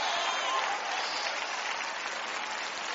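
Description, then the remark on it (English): A crowd applauds steadily, many hands clapping in a dense, even wash of sound that holds loud for about three seconds without pause. “Clap, ladies, right there.”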